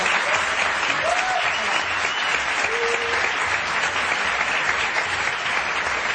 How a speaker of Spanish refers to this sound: Un aplauso para ella.